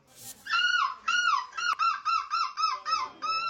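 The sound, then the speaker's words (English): A man, a seagull-screeching champion in Belgium, imitates a seagull, letting out a rapid series of about eight loud, nasal, wavering screeches in quick rhythmic succession, clear with no other voices. “Yeah, he won the Crown's new seagull screeching champion in Belgium.”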